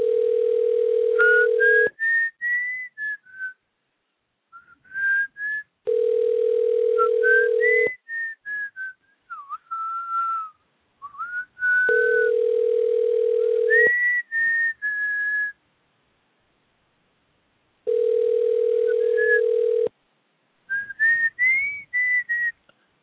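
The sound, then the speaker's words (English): A phone ringback tone purrs four times in steady two-second bursts separated by pauses while someone calls a man, and a bright whistled tune plays continuously over the rings and through the gaps. “call him. We'll see if he answers the phone.”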